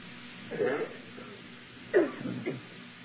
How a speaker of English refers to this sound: If somebody's still coughing a little bit, turn to them, help them out.